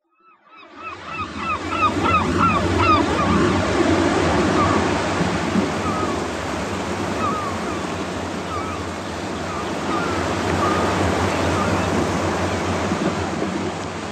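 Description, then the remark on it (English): Ocean waves wash steadily onto a shore, a broad rushing surf that surges again partway through, with faint high cries near the start and no one talking. “Sea is also beautiful. Beautiful, powerful, romantic.”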